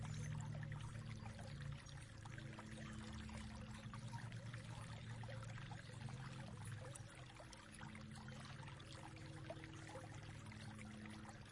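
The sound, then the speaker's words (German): Water splashes and trickles steadily throughout, a continuous babbling flow with a low rumbling undertone and no voices. “Lauschen dem plätschenden Wasser und den anderen Geräuschen.”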